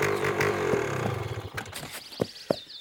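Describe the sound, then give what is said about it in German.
A motorcycle drives past a horse and rider, its engine roaring loudly with a rough, droning rumble, then fading away after about a second and a half, leaving a few sharp knocks and a faint high whine. “Die Reitpferde hier aus der Gegend kennen mich und meine Maschine.”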